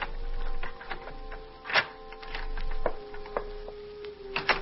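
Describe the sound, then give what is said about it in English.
A locked lab door being picked at ten minutes before 3 a.m.: small metallic clicks and scrapes come at irregular intervals over a faint steady hum, with a few sharper ticks standing out. No one speaks. “The door, locked. But not too difficult to pick, even at that hour.”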